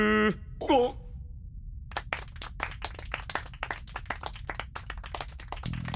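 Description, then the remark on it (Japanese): A group of people claps together in a loose, irregular patter of sharp hand claps lasting several seconds, preceded by a brief vocal groan or wail at the start. “はい、全員拍手。拍手。”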